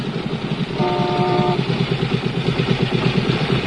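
A Harley motorcycle engine idles at a traffic light beside a station wagon, with a loping, uneven low-pitched rumble and steady pulsing beats, joined briefly by a short higher-pitched whine partway through.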